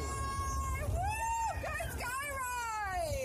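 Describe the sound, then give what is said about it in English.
Cyclists on the Coventry Ring Road at Junction 5 in Coventry city centre whoop and cheer in rising and falling cries, fairly loud, with a steady low rumble of road traffic from two or three lanes running underneath throughout. “Can we have a cheer, everybody?”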